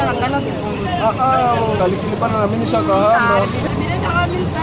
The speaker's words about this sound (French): Comme vous pouvez l'entendre, ce sont les voyageurs qui discutent les prix avec les conducteurs.